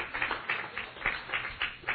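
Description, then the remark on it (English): Hands clapping in a steady, quick rhythm, like a small round of applause, sounding somewhat muffled, with no voices over it. The applause follows a reading of Patrick Henry's "give me liberty or give me death" speech. “I'd applaud if I'd have been there.”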